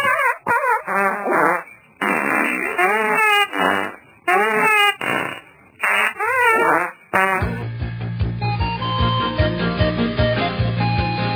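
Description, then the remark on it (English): A rapid run of about half a dozen loud, buzzy fart sounds with wobbling, sliding pitch, before music with a steady beat takes over for the rest. “It is a fart fest, yes.”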